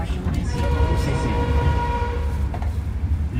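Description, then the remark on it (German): A train in Laos rumbles steadily with heavy low-end noise and faint tonal squeals as it stops at Luang Prabang; a voice murmurs faintly underneath. “Der Zug stoppt in Luang Prabang.”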